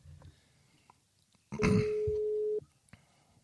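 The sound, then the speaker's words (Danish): A single steady electronic ringback tone of an outgoing phone call, lasting about a second and fairly loud, with brief rustling and a low vocal noise at its start and quiet surroundings otherwise. “Se, den ringer op i hvert fald.”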